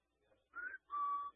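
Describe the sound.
A person whistles two short, clear birdlike notes, imitating the whistle of their pet bird at home, the first rising briefly and the second a longer steady tone, fairly loud with no talking.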